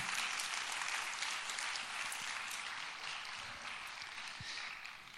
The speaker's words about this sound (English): So while they make their way up, well, you can clap now. That's good.